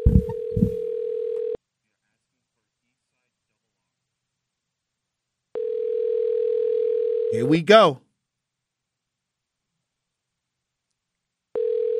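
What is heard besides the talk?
telephone dialing and ringing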